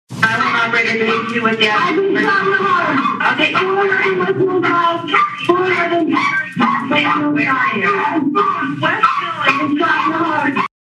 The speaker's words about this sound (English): Dogs could be heard incessantly barking in the background as a woman said, "I've been shot."